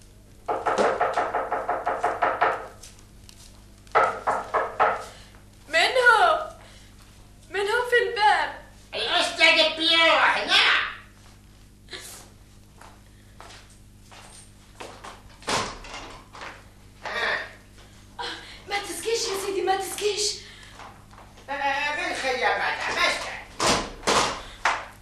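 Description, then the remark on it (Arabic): Sharp knocks strike a door in short bursts, mixed in with voices speaking over a steady low hum. “هو طل من الطاقة وشاف مول الملف ماجي طاح على الفراش وبدا كأنه لا يد لا رجل، وهو يلقف وزوجته تبكي، حتى سمعت الدقديقة في الباب.”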